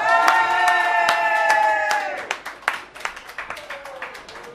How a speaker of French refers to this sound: qu'on peut bien applaudir très fort comme il se doit.